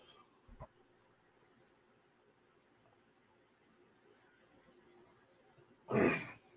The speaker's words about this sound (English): Sorry, trying to clear that frog from my throat.